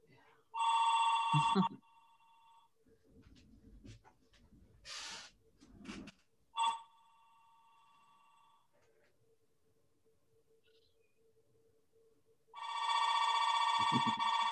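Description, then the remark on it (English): An old-style telephone bell rings loudly in three separate bursts with an incoming call, with a person speaking quietly in the pauses between rings. “And well, maybe leave the phone off the hook.”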